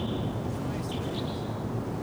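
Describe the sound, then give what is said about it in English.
Faint, high chirps and short calls from a pair of wild birds in Ponderosa pines in a canyon flicker over a steady, loud rumble of wind noise, with a thin sustained high tone running beneath the calls. “Hear the birds, but don't see them.”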